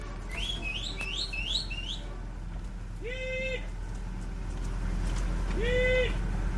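A herder at the Albarreta ranch in the Hierri Valley, Navarre, lets out two drawn-out, steady-pitched vocal calls to Navarrese cattle of the Carraquiri caste, a few seconds apart, after a run of rising bird-like chirps, over a constant low rumble.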